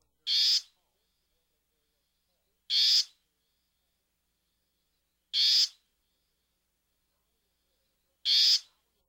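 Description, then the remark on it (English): A warbling vireo gives a harsh, nasal call four times, each short rasp spaced about two and a half seconds apart, clear against a silent background. “Here's the warbling vireo's call.”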